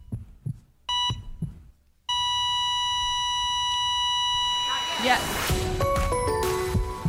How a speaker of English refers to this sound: Give him a little heartbeat. Yeah, do it again.